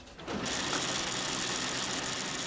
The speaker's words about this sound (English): And as the pages are coming out of the printer, I'm realizing I'm staring at a historical record of the entire financial crisis.